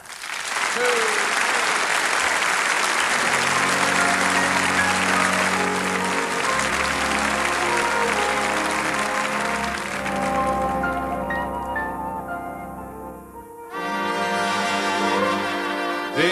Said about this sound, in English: Ladies and gentlemen, would you please put your hands together and give a real good round of applause